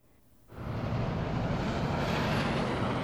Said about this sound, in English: Cars drive by a nondescript strip mall on the west side of Indianapolis. The Carrier plant sits just on the other side of the intersection.